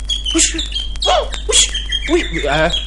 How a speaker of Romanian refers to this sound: Uite ce pasăre îndrăzneață.